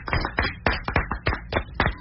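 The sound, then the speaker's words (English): Brisk, vigorous hand clapping, about a dozen sharp claps in quick succession with a slightly uneven rhythm, loud and on its own with no voices. “Didn't know I could applaud that vigorously, did you?”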